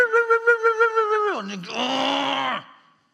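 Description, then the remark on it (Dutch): A voice imitates a howling neighbourhood dog: a high, wavering wail with a pulsing tremble slides down into a lower, rougher, strained howl, then stops abruptly. “Die honden, die jakhalzen. Ken je dat? De hond van de buren.”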